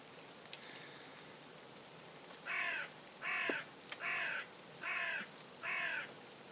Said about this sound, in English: The raven.